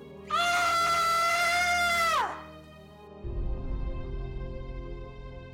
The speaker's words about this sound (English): The stillness was pierced by a horrific scream.